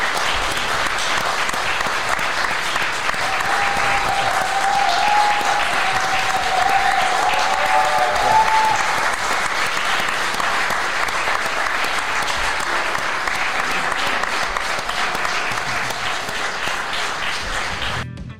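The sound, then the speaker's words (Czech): Sustained applause from a live audience, a dense wash of many hands clapping at steady loudness for about eighteen seconds, with a brief faint whistle or cheer near the middle, then tapering at the end. “ten potlesk, který by měli dostat oni, tak ten by měl být jako solo, podle mě, protože my jsme tady jenom jako příživili.”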